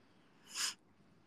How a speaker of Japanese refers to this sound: あー、ごめんね、くしゃみしちゃった。